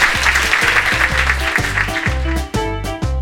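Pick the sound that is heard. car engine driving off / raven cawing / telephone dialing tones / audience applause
audience applause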